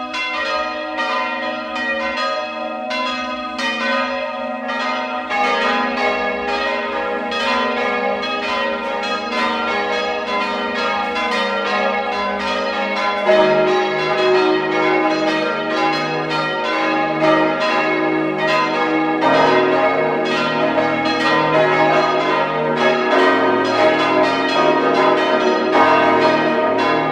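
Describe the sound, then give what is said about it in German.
At 12 noon, the bells of the town parish church of Langenlois in Lower Austria peal continuously at full volume, several bells overlapping in a dense, ringing wash of tones that shifts in pitch partway through, with no voices. “Sie hören die Glocken der Stadtpfarrkirche von Langenlois in Niederösterreich.”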